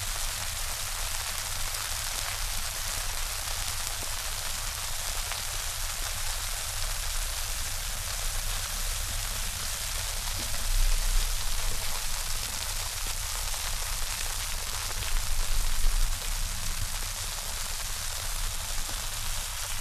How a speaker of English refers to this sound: Domestic Weather Experiment 4, Soapsuds. Constant steady rain.